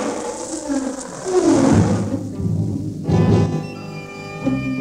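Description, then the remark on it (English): A lion roars deeply in the jungle, rising in two loud, rumbling swells a second apart, over a dense wild background with no voices. “That lion...”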